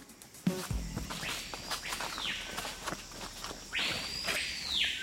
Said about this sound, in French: Ben ça, c'est le papayot. C'est un oiseau qui est très discret, sauf par son chant. Il délimite son territoire. D'ailleurs, il y a probablement un autre oiseau de la même espèce qui va répondre un peu plus tard.